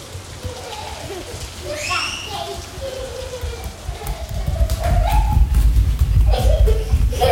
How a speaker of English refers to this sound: So I'm sitting here looking at the rain.